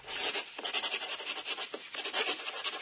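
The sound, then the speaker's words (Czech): An eraser scrubs back and forth across paper in quick, uneven strokes, rubbing out handwritten letters, a steady dry rasping hiss that swells and dips with each pass, with no voices. “ali ja volim lijepa slova, pa onda budem baš spora, stalno briskam.”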